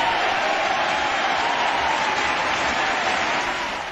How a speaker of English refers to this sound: give our Lord and Savior, Great Viper Ace, a big round of applause for our winning that Steam coupon